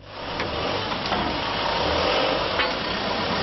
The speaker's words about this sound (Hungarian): Indul a komp Szántódról Tihanyra. Egy átlagos nyári napon 10 000 utast és 3 500 kocsit szállít, vagyis főszezonban szinte állandóan tele van.